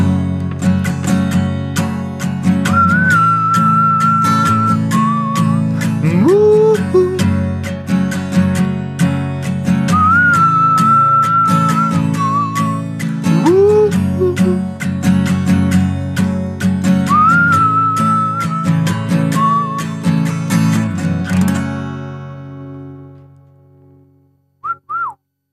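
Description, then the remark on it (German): A whistled melody rises above a full band playing steadily in a live performance, the tune returning in repeated phrases before the music fades out near the end. “Ich hoffe, die haben und alle fleissig mitpfiffen.”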